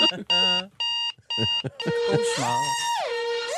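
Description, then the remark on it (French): A ringtone from the Alarmie alarm app, which stops only once a photo of the room is taken, plays loudly: four quick bursts of bright electronic beeping, then a warbling tone that glides up and down, with someone talking underneath. “on doit prendre une photo de la pièce pour que l'alarme arrête”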